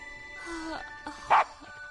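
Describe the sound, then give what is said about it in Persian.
A dog gives one short, sharp, loud bark after a quieter stretch with a faint whine-like tone and soft background noise. “او عزیزم، من فکر میکنم این سگ خیلی درد سر داره.”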